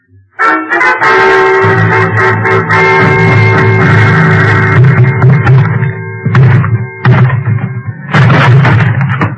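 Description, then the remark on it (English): Heavy thumps and banging as someone forces open a locked closet door repeat through loud sustained dramatic music, ending in a final burst of impacts as the lock gives way. No one speaks. “Lock on the closet door gave up before I did, but only because it was older by several years.”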